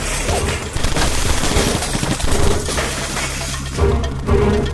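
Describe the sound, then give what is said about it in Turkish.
Sustained gunfire in rapid, overlapping bursts as an armed group fires everywhere inside a room, mixed with crashes of shattering glass and breaking objects (wall paintings, a display cabinet, books, a television, a jug on a coffee table), loud and dense throughout with no voices. “İçeri girip her yere ateş etmeye başladılar.”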